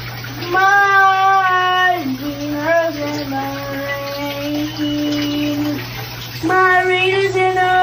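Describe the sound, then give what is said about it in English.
A young boy sings his own song in long, wavering held notes while in a running shower, over the steady hiss of the water. The voice is fairly loud, with a short pause near the end before the singing resumes. “Here's a viral video that a mom posted after she captured audio of her young son singing in the shower.”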